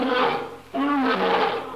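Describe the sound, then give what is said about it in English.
A lion at a zoo roaring, loud: a rough, growling roar that dips briefly, then surges again and holds, with no talking over it. “Boy, that lion sure sounds hungry.”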